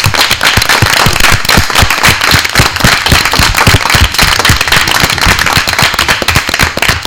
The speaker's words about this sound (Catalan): Un aplaudiment, que soni bé.